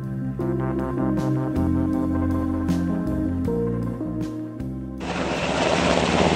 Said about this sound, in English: Military helicopter there getting Houstonians out of Houston on Monday in the face of the flood.